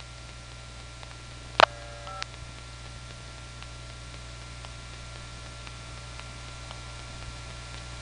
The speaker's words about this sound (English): We just heard a customer get a dial tone and dial a 5. What's noteworthy here is that we didn't hear him dialing any other digits, just a 5.